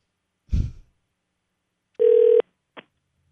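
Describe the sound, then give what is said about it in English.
A phone gives one short electronic ring, a steady buzzy tone lasting under half a second, with a dull thump before it and a small click after. No one speaks. “Did you just call me?”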